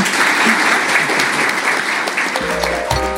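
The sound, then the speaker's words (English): An audience applauds three panellists, dense overlapping clapping holding at an even, loud level throughout, with sustained musical tones entering beneath it in the final second. “Without further ado, can you please thank the three panellists?”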